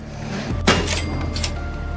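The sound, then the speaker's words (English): A sharp, solid thump of a hand striking the side of a sticking wooden drawer to free it, followed by a couple of softer knocks and rattles as it shifts. No one speaks. “The drawer sticks and you gotta hit it on the side.”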